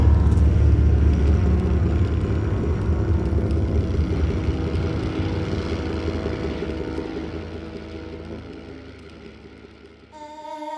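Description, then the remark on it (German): Heavy tractor engines rumble loudly and steadily as tractors cut a straight line across the land, a thick low drone with grinding texture that eases slightly near the end before a brief tonal sound cuts in. “Die Traktoren schnitten eine gerade Linie durch das Land. Die Luft und der Boden vibrierten unter ihrem Donner.”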